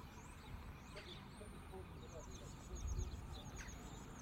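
seagulls calling

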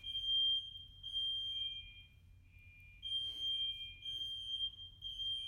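fire alarm going off

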